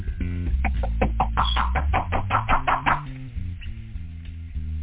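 A quick, even run of about a dozen sharp knocks on a door lasts a couple of seconds, then stops, over a steady low droning tone that continues to the end.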